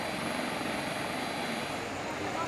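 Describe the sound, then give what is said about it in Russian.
A steady, loud roar of military aircraft engines runs unbroken throughout, a dense mechanical drone with a faint whine riding on top, at a military base in Acapulco, Mexico, where military planes are evacuating tourists stranded by flooding. “Сейчас их вывозят на военных самолетах на военной базе столпотворения.”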